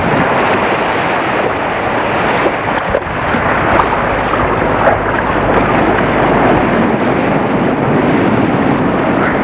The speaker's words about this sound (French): avec de très fortes bourrasques de vent.